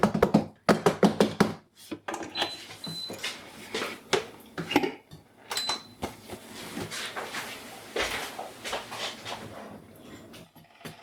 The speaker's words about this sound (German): Kannst du nicht mit einem Metallding in eine beschichtete Pfanne? Aber es dampft schon. Der Sesam wird verprügelt.